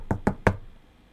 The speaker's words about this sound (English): Yeah. So there's a knock on your door.